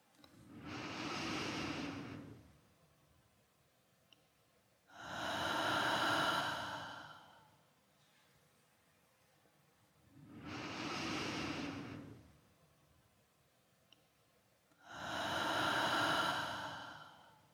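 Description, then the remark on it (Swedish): Four slow, deep breaths alternate between inhale and exhale, each lasting about two seconds with quiet pauses between. They are fairly loud, with no talking. “Och när det känns bra, så försöker du att följa med i de djupa andetagen.”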